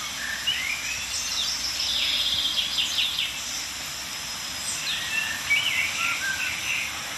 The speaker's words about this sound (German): Amsel und Buchfink, wie immer omnipräsent.